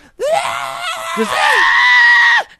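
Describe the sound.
A person imitates the agonized scream of an injured baby: one loud, sustained, shrill wail lasting about two seconds, strained and wavering, ending abruptly with a brief breath afterward.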